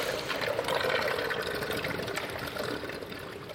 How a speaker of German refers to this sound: Aber das Wasser, ja, das, die Umwälzung und das Wasser plätschert halt, das hat ihn anfänglich sehr, sehr gestört. Also. Das ist wirklich schwierig. Es schlürft dann auch so in den Grotte drin. Die überläuft dir das. Schlürfgeräusche.